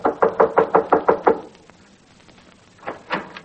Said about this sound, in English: Well, just as I started upstairs, there was a knock on the door.